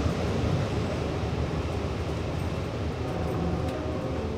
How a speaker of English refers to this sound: on the Long Island Railroad.